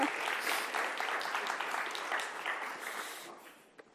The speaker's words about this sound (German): Gebt ihm ein bisschen Applaus vielleicht, das tut er vielleicht ganz gut.